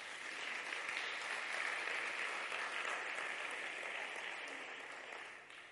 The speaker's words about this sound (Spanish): ¿Amén? Dale un aplauso al Rey.